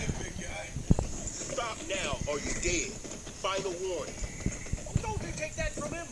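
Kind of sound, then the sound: animal, horse hooves clip-clopping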